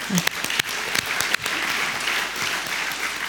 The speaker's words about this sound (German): Also willkommen der Bertelsmann Stiftung mit diesen Personen und auch nochmal Dank an diese große Leistung, die Stiftung hier für die Demokratie in den letzten Jahren eigentlich erbracht hat. Da muss ich jetzt klatschen.